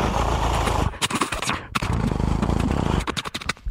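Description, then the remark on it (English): A voice imitates machine gun fire with a harsh, noisy rattle that runs nearly nonstop, breaking into rapid staccato bursts partway through and again near the end. “To do to get my guy friends to do their machine gun noises.”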